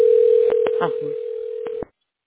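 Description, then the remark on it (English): A steady, mid-pitched telephone dial tone hums for almost two seconds as a call is placed to a tax relief specialist, punctuated by a few sharp clicks and a brief murmur of voice, then cuts off abruptly. “Let me go ahead and actually get the text specialist on the phone right now. I'm gonna dial in with you, so he'll be or she will be on the line here shortly.”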